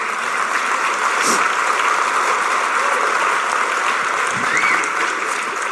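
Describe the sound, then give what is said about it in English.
A crowd claps steadily during a speech about a city's 18-week job training program for cadets, a dense wash of many hands applauding at an even, sustained level throughout, with no voices standing out. “And our hope is that many will choose to seek permanent, y'all can applaud that.”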